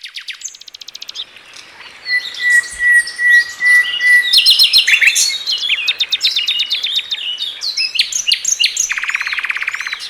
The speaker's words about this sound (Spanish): Afina el oído, déjate llevar por su presencia, en Aves de nuestro entorno.